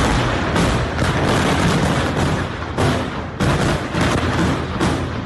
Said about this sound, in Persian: صدای این انفجار در تمام بیروت شنیده شده و تا نوقت‌های شب شعله های آتش و دود غلیظ از محل حمله بلند بود.